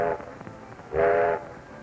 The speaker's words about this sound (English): An engineer sounds a whistle to come in on the repair track.